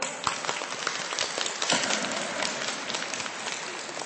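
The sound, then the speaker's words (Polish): A crowd at a Radio Maryja regional meeting of children's rosary circles in the Holy Cross parish in Kielce, Poland, claps for the listening children for about four seconds, a dense, even patter of many hands with no voices standing out and no clear rise or fall in loudness. “Brawa dla nich!”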